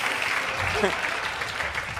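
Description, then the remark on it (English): A crowd applauds with steady, dense clapping that fills the whole stretch at an even loudness, with a faint voice briefly rising above the noise. “Let's just hear it for ourselves. Where's the clapping, lady?”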